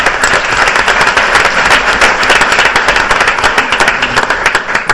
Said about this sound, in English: So a round of applause for that.